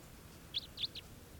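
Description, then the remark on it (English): A wild bird gives a short raspy call of three quick, rough notes in close succession, standing out above a steady background hiss with no voices. “That was the wild bird. It's got a kind of a low raspy call.”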